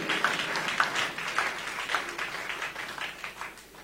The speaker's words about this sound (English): Clap your hands and bless God.